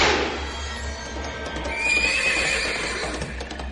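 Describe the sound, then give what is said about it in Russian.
A horse rears up under its rider, giving a loud, wavering whinny that rises and trembles over a few seconds, with hooves shuffling and stamping beneath it and a low rumbling background. “Конь, как огонь, взвился под ним, и дед, что птица, вынесся наверх.”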